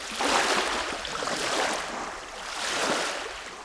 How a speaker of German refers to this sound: Soweit Prinz Ludwig von Bayern vor der Kulisse von leicht schlagenden Wellen ans Ufer des Turkana-Sees mitten in der kenianischen Halbwüste.